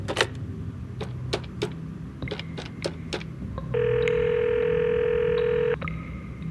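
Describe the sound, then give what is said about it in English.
A quick series of sharp clicks like phone buttons being pressed as a number is called from an office phone, then a steady, buzzy ringback tone holds for about two seconds before cutting off. No one speaks. “Back in my office, I quickly consulted my computer, then picked up my phone and called the number we had in the system.”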